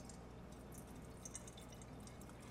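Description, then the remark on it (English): A steady trickle of liquid pours into a container, with soft splashing and dripping. It is fairly faint and continuous, and no one speaks. “I should have got a bigger one, but I'm going to pour that in here.”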